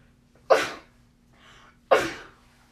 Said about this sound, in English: I'm gonna sneeze, give me a minute.